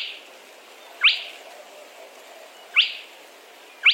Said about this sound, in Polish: Obok, w paśmie trzcin nad jeziorkiem, można spotkać kropiatkę.